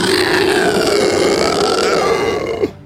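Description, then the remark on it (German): A voice imitates the final scream of a dying lindworm (dragon): one long, loud, raspy, guttural roar held for nearly three seconds, sagging slightly in pitch before breaking off with a short final gurgle. “Und indessen ist Grindol auch oben angekommen und ihr hört ein weit lauteres Stapfen in eure Richtung, nachdem der Lindwurm, den ihr gerade vermeintlich erlegt habt, seinen letzten widerwärtigen Schrei ausstößt.”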